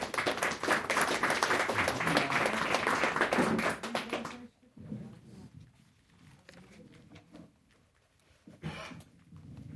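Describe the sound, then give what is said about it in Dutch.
An audience bursts into loud, dense applause for about four seconds to welcome a retired pediatrician from Artsen voor Vrede speaking on nuclear weapons, then it stops abruptly, leaving quiet with faint murmuring and a brief voice. “Applaus.”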